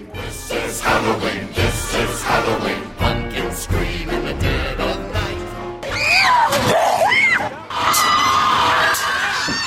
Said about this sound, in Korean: 사람들의 비명이 끊이지 않는 이곳은 바로 귀신의 집.